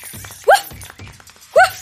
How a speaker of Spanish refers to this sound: es un ladrido de perro muy particular. ¿Cómo se dice en inglés? Dogs bark.